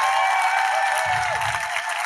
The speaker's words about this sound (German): Könntet ihr einmal ganz laut klatschen, dass Sie denken, wir haben alles richtig gemacht? Ja.